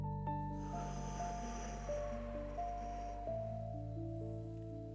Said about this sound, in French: Alors, doucement, tu vas prendre une grande inspiration par le nez. Et puis tu vas souffler lentement par la bouche.